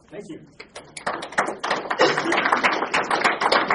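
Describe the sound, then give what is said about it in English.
A short stretch of voice gives way to the audience of a seminar on church planting clapping for the speaker, starting with a few scattered claps and quickly swelling into dense, steady applause that holds at full loudness to the end. “You should probably wait to decide if you want to clap at the end.”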